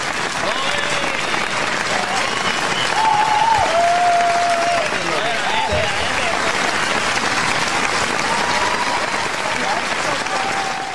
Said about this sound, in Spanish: aplauso.